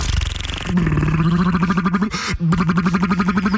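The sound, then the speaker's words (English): A voice imitates a 70s motorboat engine on K-Rock 96.5 Los Angeles radio's Kevin and Bean Show, with a steady, sputtering lip-buzz. The rapid rhythmic pulsing holds a fairly low pitch and is loud throughout, with one brief break near the end. “Bringing you the best motorboat sounds of the 70s.”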